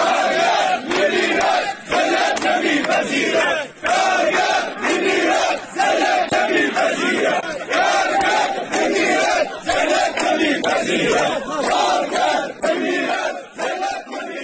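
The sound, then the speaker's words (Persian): A large crowd of hundreds of striking Mianab agro-industry workers, gathered in front of the Karkheh labour office in Shush to protest their work contracts and low wages, chants together in loud, rhythmic bursts, many voices rising and falling in repeated slogans with brief pauses between phrases. “صدها تن از کارگران کشت و صنعت میان آب اعتصاب و در مقابل اداره کار کرخه تجمع کردند.”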